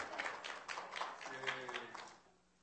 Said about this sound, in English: Today is their 15-month anniversary. Everybody applaud, 15 months.